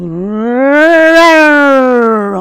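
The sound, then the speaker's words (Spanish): Strings in unison sweep upward in a quick chromatic run and then slide back down, one loud, growling swell meant to sound like a lion's roar, with no voices. “Imagino que habrán sido capaces de escuchar esos rugidos del león, que eran esas escalas cromáticas de la cuerda al unísono.”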